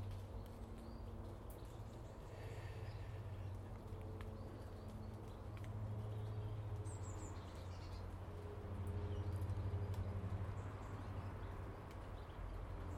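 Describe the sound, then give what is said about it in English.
Faint, scattered bird chirps over a steady low rumble on a calm morning, with no voices, giving a quiet, still outdoor feel. “Very calm this morning. Lots of bird song.”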